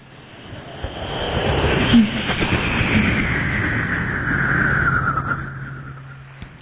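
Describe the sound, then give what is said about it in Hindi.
An Air Force jet roars as it takes off at an airport, a loud sustained rumble with a whining tone that sweeps and shifts over several seconds, with no voices. “वहां पहुंचकर देखा कि एक एयरफोर्स का जहाज उड़ान भरता है।”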